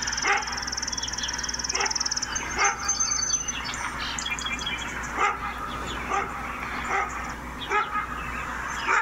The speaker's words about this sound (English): And the dog was barking on and on and on.